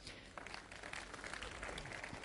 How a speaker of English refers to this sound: Come on down, please. Big round of applause for our volunteer.